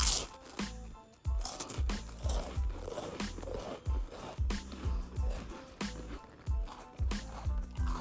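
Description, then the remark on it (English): Crunching of buttery Ritz crackers being chewed, a steady series of crisp bites and chews repeating roughly every half second, loud with no talking. “Today's crunch is Ritz crackers.”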